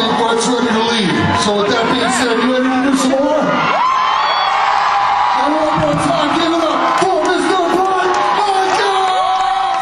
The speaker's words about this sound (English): I tell you what, man, nothing like a crazy crowd screaming, standing on the chairs.